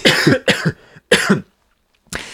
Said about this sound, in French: Excusez-moi, je vais tousser.